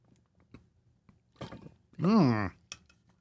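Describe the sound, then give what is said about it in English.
A few quick gulps of water in a short burst as someone chugs a drink, followed by a loud, satisfied voiced sigh that rises and falls in pitch before quiet returns. “Wherever you're watching, wherever you're listening, time to drink some water.”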